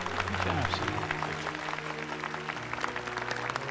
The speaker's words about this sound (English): Ladies and gentlemen, it is my honor to present the recipient of the Golden Trailer Lifetime Achievement Award, Sam Soto. Clapping, Mo raises his hands over his head.